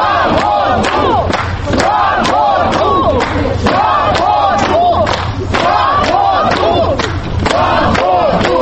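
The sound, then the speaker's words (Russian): A large crowd of supporters at the gates of the Khamovnichesky Court greets former YUKOS leaders Mikhail Khodorkovsky and Platon Lebedev as they are brought in, chanting in unison with loud, rhythmic shouts, backed by steady applause and clapping throughout; the sound stays dense and energetic without pause. “Бывших руководителей ЮКОСа встречали аплодисментами и дружным скандированием.”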